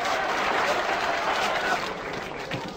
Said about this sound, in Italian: Bravo! Bravo! 92 minuti di applausi!